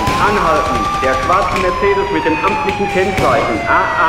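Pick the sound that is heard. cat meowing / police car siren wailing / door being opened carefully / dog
police car siren wailing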